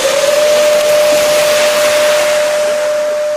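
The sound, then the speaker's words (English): An air raid siren blares a single loud, steady mid-pitched tone that rises briefly at the start and then holds without a break, over a broad hissing wash of noise, during a civil defense drill in South Korea for the Uchi Freedom Shield exercise as police halt vehicles. No one speaks. “An air raid siren blares as police halt vehicles and pedestrians are ushered to shelter.”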